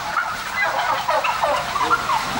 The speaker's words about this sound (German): Die meisten Puten leben in Ställen wie diesem. Das grüne Licht soll die Tiere in der Intensivhaltung beruhigen, damit sie sich nicht blutig hacken, ehe sie nach einer kurzen Mast zum Schlachthof gekarrt werden.